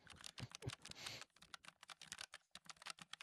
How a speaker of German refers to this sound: Nimm die Tastatur hoch und tipp was ins Google Doc.